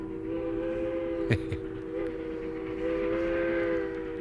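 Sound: train whistle blowing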